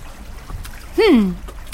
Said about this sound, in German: Henk macht sich auf den Weg nach Dierhagen. Er stoppt am Hafen und zeigt Rosalie die vielen Boote. Schau mal, die ganzen Boote hier.